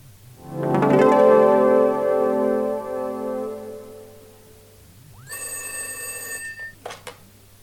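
An old-fashioned telephone bell rings loudly, a long metallic ring that fades out, followed by a second shorter, brighter ring and a couple of faint clicks.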